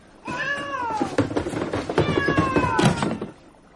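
unhappy cat meowing

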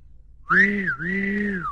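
whistle blowing

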